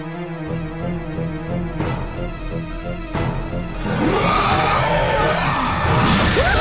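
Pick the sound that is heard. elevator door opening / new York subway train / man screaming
man screaming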